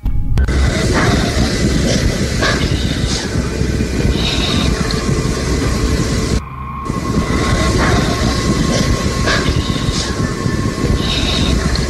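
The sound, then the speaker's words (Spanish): A metro train roars steadily through Tasqueña Metro station, a loud, unbroken rumble layered with metallic hiss and faint squeals, briefly dipping for a moment partway through before the din resumes. “Y en Tasqueña, a propósito del Metro Tasqueña, ahí se oye alguien más que dice esto.”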